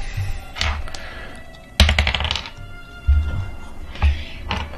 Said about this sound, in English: I rolled a 9 and a 6.